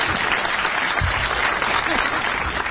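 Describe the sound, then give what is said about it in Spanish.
Steady audience applause for Lula, a dense wash of many hands clapping at an even, fairly loud level throughout, with a faint murmur of voices underneath. “Aplaude a Lula.”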